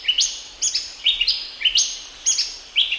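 Forest birds in the Central Highlands of Papua New Guinea sing their late afternoon calls, repeated bright, whistled phrases in a steady rhythm, several overlapping calls rising and falling, with a quiet background and no voices.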